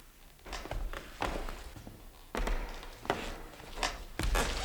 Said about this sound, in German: Und dann näherten sich Schritte.